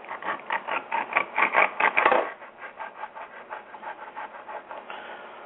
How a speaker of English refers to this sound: I'm going to cut the tail off this motherfucker. Mm-hmm. I'm cut the tail off. Sounds like you're sawing it off.